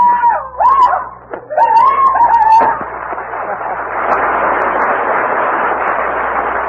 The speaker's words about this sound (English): some people like to ride horses, and some like to play the fiddle. Then there's some like to write poetry, but me, I like to holler.